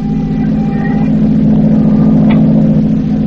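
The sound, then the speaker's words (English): A car engine rumbles steadily at a constant loudness for a few seconds, a low, continuous drone with no clear rise or fade. “you see the car? No, I see it. I'll take a good look when he comes by.”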